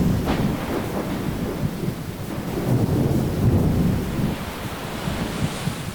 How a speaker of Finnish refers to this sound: Salama iskee juuri pienen matkan päähän ja samassa ukkosen ääni peittää kaiken alle.